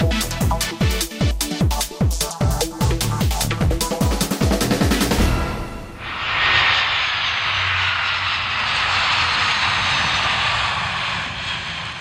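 A loud airplane engine, pulsing in a rapid rhythmic throb for about half the time before smoothing into a steady, broad roar as a plane from Paris lands at Prague's Václav Havel Airport on a Friday evening, the last flight of Czech airline CSA. No one speaks.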